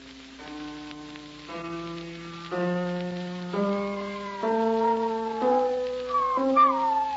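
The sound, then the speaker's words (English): A big, fat spaniel howls in long, sustained tones that shift pitch step by step along with piano notes played during a piano lesson, rising into a wavering wail near the end over a steady hiss. “I remember the wife's dog, big, fat spaniel it was. He was howling along at the piano the way he always did.”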